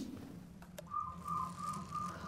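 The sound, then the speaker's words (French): A bird gives a thin, steady whistle that holds for over a second, fairly faint, over a low rumbling drone, with a couple of soft clicks just before it starts. “J'entends des moteurs, des sifflements d'oiseaux, des moteurs, des sifflements d'oiseaux.”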